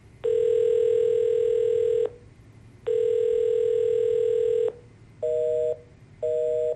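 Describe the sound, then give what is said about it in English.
A telephone being dialed in an office: two long, steady electronic tones followed by two short keypad beeps, clear with a faint background hum and no voices. “Victoria references a typed sheet of paper and dials the phone.”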